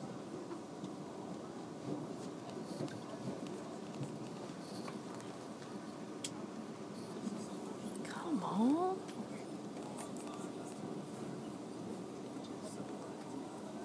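Steady low rumble and hiss from inside a moving train carriage, constant throughout, with faint murmuring in the background and a brief higher-pitched whine partway through.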